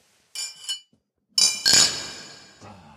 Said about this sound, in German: Ja, lass uns mal anstoßen.